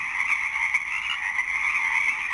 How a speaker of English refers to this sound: Take care and enjoy this sound of the Pacific chorus frogs as they continue to sing through the night.